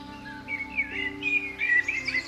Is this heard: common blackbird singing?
yes